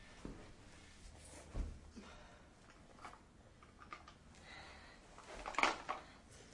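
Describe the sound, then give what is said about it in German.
Kitchen drawers being pulled open and pushed shut, a few soft wooden clunks and slides spread out with pauses between, fairly quiet. “Du lass mal die Schubladen zu, bitte.”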